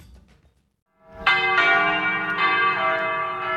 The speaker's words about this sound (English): The bells of Madrid's Almudena Cathedral ring out, calling the faithful to celebrate the risen Christ.